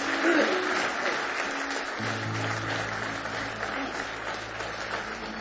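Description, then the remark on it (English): An audience at a night church service claps hands in praise of the Lord, a dense, steady wash of applause from many people, with a low sustained organ-like tone entering partway through. “Give the Lord one more hand clap of praise.”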